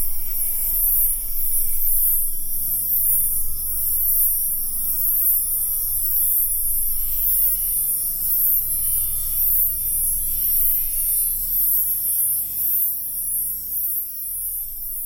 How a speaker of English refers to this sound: Right now, we're listening to those same crickets, but they've had their voices manipulated using digital technology. Let's listen for a moment just for fun.